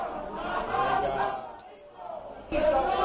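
A crowd at the doors of the Tribunal Superior de Justicia de Andalucía boos and shouts insults angrily at the arrival and departure of those testifying, a dense roar of many overlapping voices that dips briefly in the middle before surging loud again.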